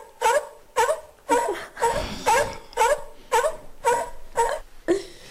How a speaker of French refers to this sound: Voilà, pas mal de bruits de phoques, là, justement, des cris de phoques.